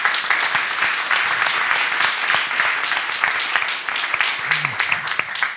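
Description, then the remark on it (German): A conference audience at the Fachtagung Dimension Digitalisierung of the Forum Bildung Digitalisierung applauds steadily, dense overlapping claps forming a loud, sustained wash of sound with no pause, with a brief murmur of voices under it near the end. “Und als Beweis könnten Sie vielleicht einmal akustisch zu erkennen geben, dass Sie wirklich da sind.”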